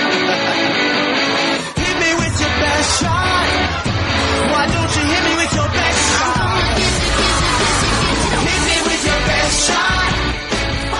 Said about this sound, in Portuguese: Opa! Alguém tá gritando ali, hein?